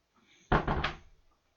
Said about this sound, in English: Close the door and sit right here.